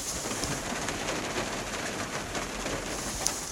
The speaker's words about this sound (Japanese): 今日は雨が降ってまして、でこの雨音が若干入ってるのかもしれません。聞こえますかね。